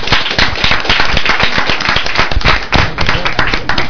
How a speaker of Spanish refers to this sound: Pues muchas gracias y un aplauso para ellos.